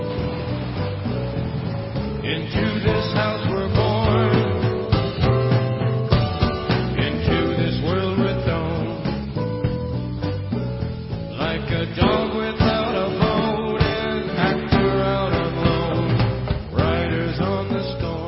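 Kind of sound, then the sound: rock song played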